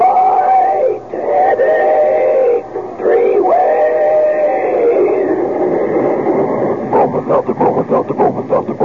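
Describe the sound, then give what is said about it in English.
The famous talking Bromo Seltzer train sound effect: a moaning, voice-like train whistle tone drones and bends for several seconds, then gives way to a steady rhythm of sharp steam-engine chuffs, imitating a talking locomotive. “Meanwhile, here's a friendly tip from an old pal, our famous talking Bromo Seltzer train.”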